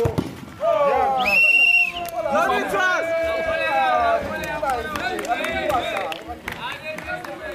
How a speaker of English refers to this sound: Around 30 people from the neighborhood came to watch the match. At the goal, they cheer.